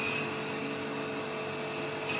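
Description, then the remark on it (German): A continuous, loud grinding of a grinding wheel against an old, no-longer-needed grinding stone, throwing sparks, to sharpen the wheel: a harsh, steady rasp with a faint whine running through it, with no talking. “Ist jetzt ein Stein, der nicht mehr benötigt wird, Gott sei Dank. Weil er sich so funken jetzt. In dem Fall ein Schleifstein.”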